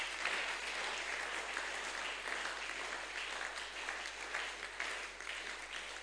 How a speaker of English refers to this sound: I think you should be clapping over there. Decree the honor.